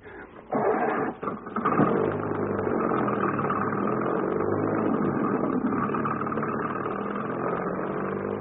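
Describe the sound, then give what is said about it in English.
A car engine starts up with a few quick revs, then settles into a steady, moderately loud running drone as the car drives away down a hill, continuing evenly to the end. “That must be his car going down the hill.”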